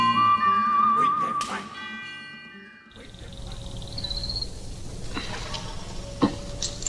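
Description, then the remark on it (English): A whistled film theme melody with a wavering, vibrato tone rides over sustained orchestral chords for a few seconds, then gives way to a rougher, noisier passage with scattered sharp accents. “Whistling was really important because it immediately made the tunes memorable.”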